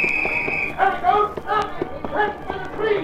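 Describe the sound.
Quick, fairly regular footfalls of someone running through a rear door and across the open space behind a building, sharp thuds repeating for a few seconds, with a steady high police whistle at the start and shouting police voices layered over the steps.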